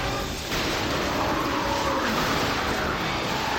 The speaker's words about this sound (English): As the group accelerates out of the third turn onto the straightaway, the car behind clips him. And it's total disaster.